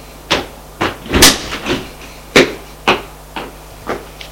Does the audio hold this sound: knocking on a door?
yes